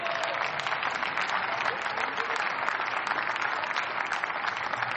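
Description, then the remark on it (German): Steady applause during a parliamentary debate from members of the speaker's own parliamentary group, after a call for a supply chain law banning child labour: a dense, continuous patter of many hands clapping at an even, moderately loud level for the whole stretch, with no voices standing out. “Und besonders freue ich mich über den Beifall aus der Mitte meiner Fraktion, Herr Fraktionsvorsitzender.”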